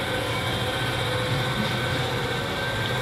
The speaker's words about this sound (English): Just the metro in Paris for half an hour.